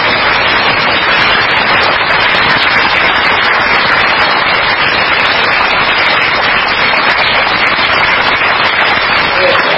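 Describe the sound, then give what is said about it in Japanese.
Sustained, dense applause from a large crowd at a ceremony, a steady crackling wash of many hands clapping at an even, loud level for about ten seconds without letting up. “本当に、心から拍手を持って感謝を。”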